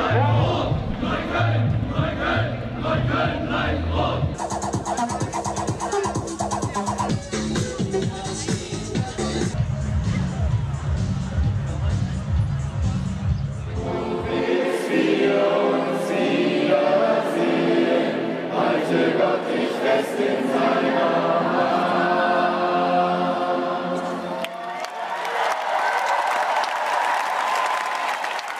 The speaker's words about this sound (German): Ja, so klingen sie, die heutigen Massen, jubelnd, gröhlend, skandierend, singend.